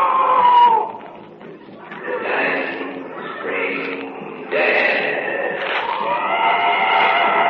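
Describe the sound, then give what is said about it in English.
A wounded animal in the jungle screams in a string of strained, wavering, high-pitched cries that overlap and rise and fall for several seconds, fairly loud, with no speech. “The wounded animal screaming out.”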